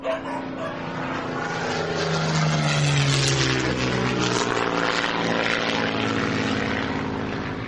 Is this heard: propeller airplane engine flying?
yes